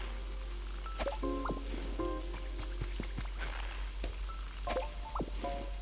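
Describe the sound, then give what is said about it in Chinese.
Light rain patters steadily, with scattered drop taps crackling over a soft hiss. A few short tonal chirping calls rise above it now and then. No one speaks. “OK 落下雨就啱噶啦。”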